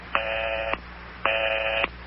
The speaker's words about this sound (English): Is that the number you're dialing there? Yeah. I keep getting the busy signal.